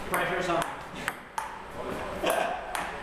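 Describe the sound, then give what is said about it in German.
A table tennis ball is hit back and forth in a quick rally in a coworking space, five or six sharp clicks at a steady pace, over a murmur of background voices. “Und natürlich arbeiten auch sie in einem der coolen Coworking-Spaces, in dem nicht nur gerödelt, sondern auch Tischtennis gespielt wird.”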